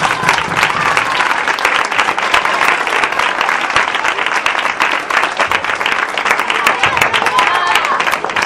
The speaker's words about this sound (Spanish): Y pues nada, muchas gracias a todos y me gustaría que os dieseis un aplauso entre vosotros porque sois los grandes mecenas de todo ello, ¿vale?